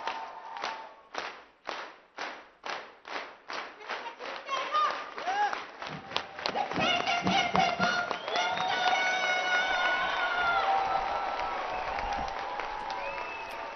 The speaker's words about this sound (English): So everybody, can I get a clap? Yeah.